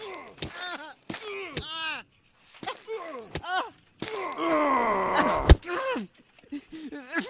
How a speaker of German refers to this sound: Da wird jemand verprügelt.